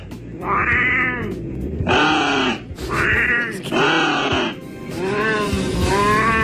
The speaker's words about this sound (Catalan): Un corb i un gat parlen entre ells a dalt d'una taulada cada setmana. Científics de Nord-Amèrica estan intentant traduir aquesta conversa.